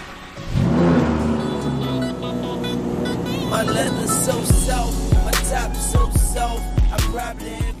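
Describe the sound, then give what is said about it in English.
A black Lamborghini Murcielago sports car engine cranks and roars to life, settles into a deep rumbling idle, then is revved in several sharp, loud bursts. “The car that TJ bought was a black Lamborghini Murcielago.”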